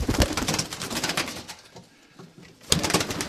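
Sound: pigeons cooing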